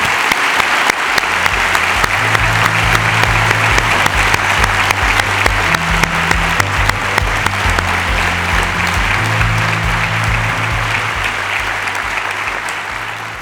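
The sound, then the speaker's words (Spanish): Sustained audience applause at an event, loud and dense with steady rapid clapping, running throughout with a low musical drone underneath, easing slightly toward the end. “Así que os pido de nuevo un gran aplauso para todos ellos y os animo a que sigáis.”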